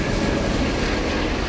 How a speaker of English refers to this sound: That I've been hearing in the subway since I was a younger person, probably since I was in middle school. It's a sound that you hear when you're standing on the platform and the train is just about to leave the station.